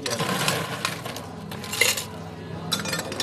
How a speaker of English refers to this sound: If you had to poetically evoke the traditional British drinking establishment, you might imagine the rattle of ice.